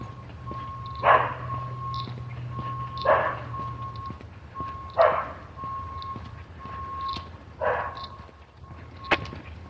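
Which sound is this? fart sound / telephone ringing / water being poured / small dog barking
small dog barking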